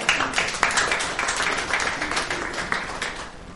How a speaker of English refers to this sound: So thank you so much for your willingness to serve and continue serving this congregation. So one more round of applause.